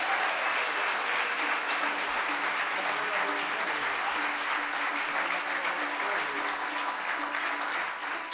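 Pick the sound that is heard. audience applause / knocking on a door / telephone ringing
audience applause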